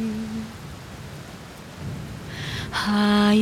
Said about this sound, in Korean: 비가 내리네. 무거운 빗방울들이